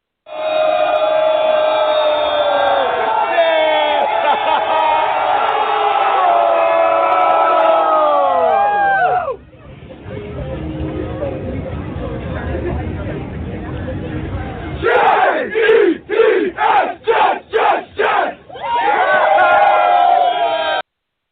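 A loud crowd of New York Jets football fans cheers and shouts, the roar dipping into a rougher murmur before they break into a rhythmic chant of "J-E-T-S, Jets, Jets, Jets", six or seven sharp, evenly spaced bursts, then cheering resumes, celebrating the team's win.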